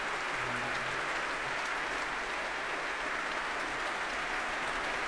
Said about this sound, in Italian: And all those bows and all that applause closes this semi-stage performance. It was made specially for the Proms by Ian Rutherford, adapted from the sell-out Glyndebourne production of this opera, directed by Michael Brandage.